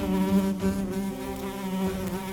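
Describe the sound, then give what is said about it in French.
A fly buzzes steadily around a creamy slice of bread, its droning hum wavering in pitch as it circles, with no speech over it. “Satanée mouche, quittez ma tartine et promptement encore, ou il vous en cuira.”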